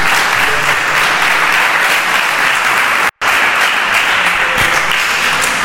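Loud, sustained applause from an audience, a dense wash of many hands clapping at a steady level, briefly cut out for a split second midway before resuming just as full.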